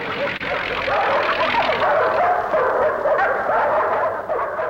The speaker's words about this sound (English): As he nears Animal Farm, the dogs bare their teeth.